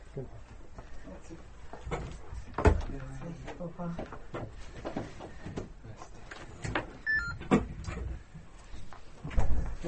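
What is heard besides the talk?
door being closed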